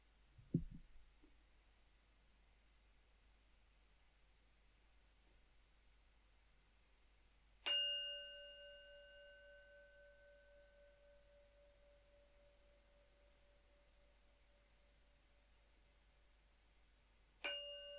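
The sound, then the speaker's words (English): A meditation bell sounded three times at the start of a meditation: a soft muted tap first, then two clear, resonant strikes about ten seconds apart, each ringing out and fading slowly amid otherwise quiet. “And I'll start with three sounds of the bell.”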